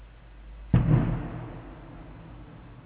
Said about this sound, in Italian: Quella che stiamo sentendo è la cosiddetta Diana pirotecnica, sinistri rumori di guerra col pretesto di onorare un santo.